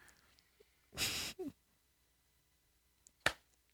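Two people, eyes closed, try to clap at the same time; the claps land out of sync, roughly two seconds apart: the first a broad, slightly smeared burst, the second a sharp, crisp smack, with near silence between them.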